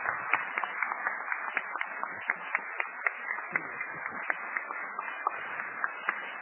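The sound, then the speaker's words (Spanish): Sustained applause from an audience for maestro Federico García Vigil, many hands clapping densely and steadily for several seconds with sharp individual claps poking through, no voices. “Aplausos para Federico García Vigil, por favor, maestro.”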